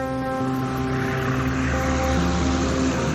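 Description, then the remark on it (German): A boat's motor drones steadily over a broad wash of water as the boat approaches the shore, a constant, fairly loud engine hum with splashing noise and no voices. “Das Boot nähert sich dem Ufer.”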